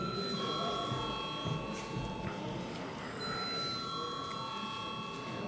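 A parliament voting bell, called for before deputies vote on a proposal, rings steadily and continuously, a sustained high metallic tone with bright overtones that holds at an even loudness over a low murmur of the chamber.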